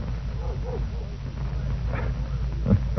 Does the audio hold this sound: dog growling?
yes